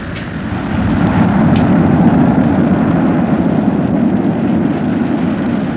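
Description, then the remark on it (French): A powerful tornado wind roars continuously, swelling within the first second and then holding steady, loud and deep with a heavy low rumble. No voices are present. “Et d'un coup, un vent terrible, une tornade l'entoure. Elle éjecte, le pousse. C'est un souffle immense.”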